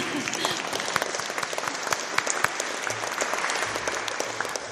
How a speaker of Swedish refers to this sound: Stort tack för att ni har lyssnat. En applåd för er också, tycker jag.